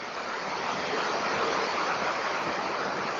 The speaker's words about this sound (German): Das, was wir gerade hören, ist ein Platzregen auf dem Wellblechdach. Offensichtlich sehr intensiv und sehr laut. Ja, es lässt schon gleich nach.